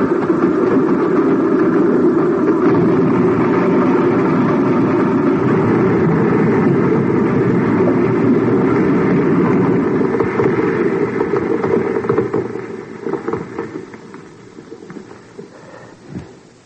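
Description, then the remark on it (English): A runaway train with no driver thunders through a narrow tunnel: a heavy, steady, roaring rumble that holds for about twelve seconds, then fades away, ending with a single dull thud; the train crashed at the end of the tunnel. “Sure, it sounds like a railroad train. Must be some of those loading cars running in the tunnel.”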